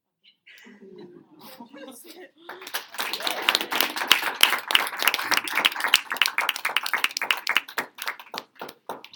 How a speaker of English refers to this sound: Can someone bring them in, please? Let's give them a round of applause again.